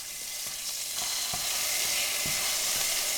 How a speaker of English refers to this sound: She starts by sautéing some garlic, and then she throws an icy cube of sofrito in the pan.